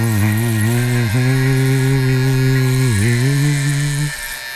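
An electric shaver buzzes steadily with a low, harmonic motor hum, its pitch dipping briefly twice as it presses against skin, then cuts off near the end.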